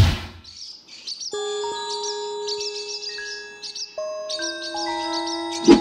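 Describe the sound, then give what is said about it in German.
Swallows flying over a roof terrace twitter in quick bursts of high, thin chirps throughout, while steady ringing tones like soft chimes sustain beneath them; no one speaks. “Schön, wie die Schwalben über unsere Dachterrasse segeln.”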